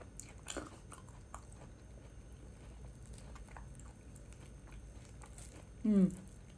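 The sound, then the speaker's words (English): Crisp crunching of someone biting and chewing durian that is crunchy on the outside and soft on the inside, with irregular snaps and clicks throughout, ending in a short, louder voiced murmur near the end. “See when it's kind of crunchy on the outside and soft on the inside, you can eat so much of it because for one, it's not too ripe, so it's not too sweet.”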